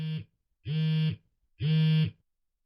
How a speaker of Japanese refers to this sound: あ、電話。ちょっと待って。